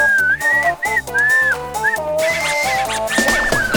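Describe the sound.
A person whistles a patriotic national tune, clear sustained notes gliding between pitches in a steady, song-like phrase, with no talking.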